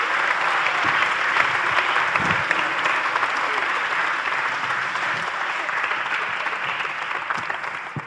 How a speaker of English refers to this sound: Can we give them all a big round of applause, please? Well done. Thank you.